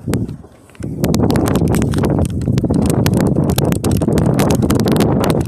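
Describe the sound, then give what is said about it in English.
Strong wind roars outdoors in Dallas, Texas, buffeting loudly and steadily after a brief quieter moment at the start, with low rumbling gusts and scattered crackling bursts; no one speaks. “Well, it's kind of windy up here, you know. I think you can hear the wind blowing”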